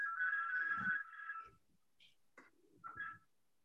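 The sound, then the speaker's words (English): A smartphone ringtone plays during a meeting, a sustained bright electronic tone for about a second followed by a few shorter chirping notes, moderately quiet with no one speaking over it. “Who's ringing there? That's me.”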